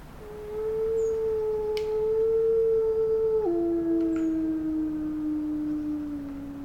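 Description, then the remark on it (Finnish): A lone wolf howls in one long, sustained note that holds steady, then drops to a lower pitch partway through and trails on for several seconds, clear against a faint background hiss. “Mitä susi näkee, ajattelee ja tuntee etsiessään suojaa metsänpeitosta?”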